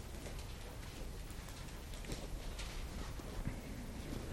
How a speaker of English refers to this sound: I like that sound of the pages turning, so.